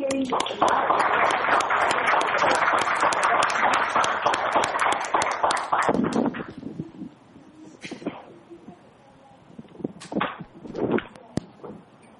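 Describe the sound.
A crowd breaks into loud, dense applause for about six seconds, then it thins out to a few scattered claps while a voice begins speaking.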